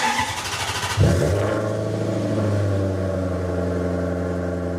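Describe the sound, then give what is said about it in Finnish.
An electric Maserati sports car's artificial, thunder-like engine sound swells in after a brief rev, then holds as a deep, loud, layered rumble with a steady humming drone. No one speaks. “Sitten jos se puuttuu, se pitää olla oikeasti se joku vikinä tai Salaman ääni tai jotakin, mutta mä ymmärrän hirveän hyvin Maseratia tässä näin.”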